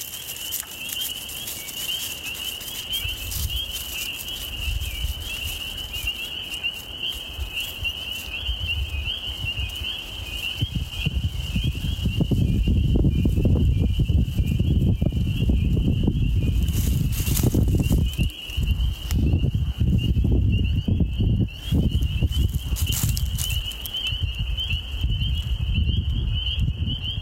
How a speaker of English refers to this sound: Let's listen to these frogs.